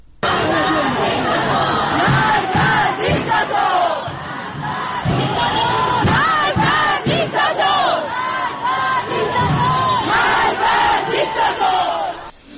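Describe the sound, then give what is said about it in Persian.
A large crowd at a street protest in Tehran, Iran, chants and shouts, a loud, dense roar of many voices with rising rhythmic calls and bursts of yelling that continue without pause. “در تهران تجمع‌های اعتراضی در شهرک غرب، شهرک سپهر، قلهک، گیشا، بلوار فردوس، سعادت آباد، خیابان شریعتی و خیابان ولیعصر برگزار شد.”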